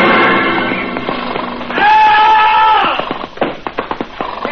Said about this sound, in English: Then in desperation, he plunges his spurs deep into the sides of his horse. The horse rears.